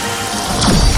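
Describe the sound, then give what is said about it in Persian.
A dense, steady wash of heavy rain pours down loudly, swelling toward the end with a deep rumbling crash mixed into the downpour. No voices are heard. “ای باران همه چیز را بشوی و نابود کن.”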